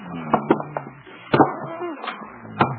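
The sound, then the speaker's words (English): A heavy desk is shoved across the floor to barricade a door: several knocking thumps spaced irregularly, with squeaky, grinding scrapes between them, fairly loud. “Better barricade the door. Where's the desk?”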